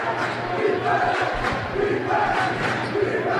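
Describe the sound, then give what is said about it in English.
A dense student section at a basketball game yells "defense" in unison, a sustained roar of many voices with rhythmic chant-like swells rising and falling steadily throughout, loud and continuous. “Student section yelling defense.”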